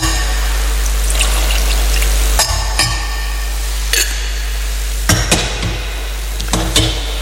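Water trickles and pours into a metal chalice of wine during Mass, with several sharp clinks of vessels touching, over a steady low hum, with no one speaking.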